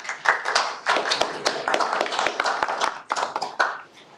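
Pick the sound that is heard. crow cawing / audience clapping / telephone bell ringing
audience clapping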